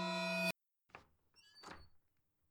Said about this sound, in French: Ta honte se mélange à l'horreur quand tu entends la porte de ta chambre s'ouvrir doucement.